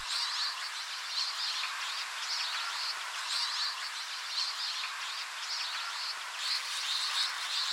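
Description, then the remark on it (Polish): A flock of twites gives continuous buzzing, ringing calls, overlapping chatter from many birds, steady throughout with no voices; a recording made ten years ago. “Jeśli chodzi o dźwięk, wędrując po polach, warto nasłuchiwać takich bzycząco dzwoniących dźwięków. To nagranie sprzed 10 lat.”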